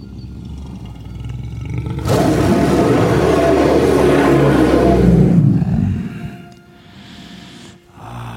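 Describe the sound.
A single loud roar bursts in suddenly, holds for several seconds with a rough, rumbling growl, then trails off into a quieter low rumble.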